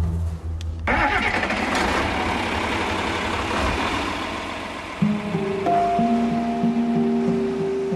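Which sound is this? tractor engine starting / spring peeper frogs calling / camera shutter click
tractor engine starting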